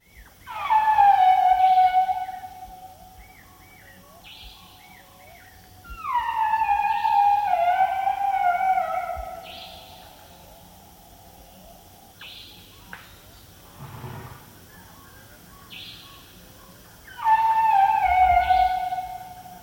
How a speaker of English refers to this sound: Elephant Bill worked with Asian elephants, and we have a recording from March 1999 in Nepal by animal recordist Linda McCauley of the sound of the Asian elephant.